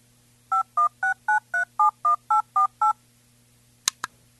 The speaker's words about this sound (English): So you heard the tones of if you were dialing the phone yourself.